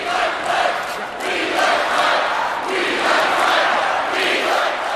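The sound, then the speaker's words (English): A large crowd at a Republican rally chants in unison for vice presidential nominee Mike Pence, many voices rising and falling in loud rhythmic swells over a constant roar of crowd noise. “That is a chant, of course, for Republican vice presidential nominee Mike Pence.”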